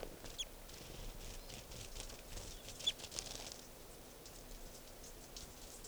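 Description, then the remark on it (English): A bird's wings flutter and beat in quick, irregular bursts of soft rustling as it struggles in a mist net before being collected as bird number 492. A faint low hum sits underneath, and no one speaks. “He's going down to the net step.”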